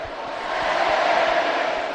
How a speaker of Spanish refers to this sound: grita la gente.